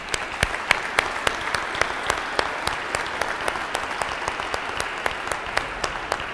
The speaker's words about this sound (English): But give my brother bishops a round of applause. They have great love for you.